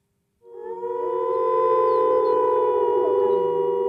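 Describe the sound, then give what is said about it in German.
Wolves howl in a long, sustained chorus of layered tones, with slow rising and falling pitch bends, swelling in after a brief silence and holding steady without any talk. “Er heult wieder.”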